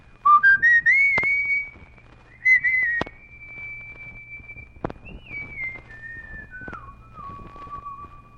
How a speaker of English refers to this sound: He was a boy on Logan Street in Washington, D.C., looking for a way to play the tune he was whistling. Tune that called his gang together in the hot summer evening.